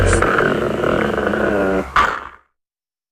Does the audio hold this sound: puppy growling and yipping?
yes